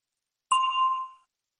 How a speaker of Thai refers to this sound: รอฟังเสียงกระดิ่งดังขึ้นก่อนแล้วจึงตอบ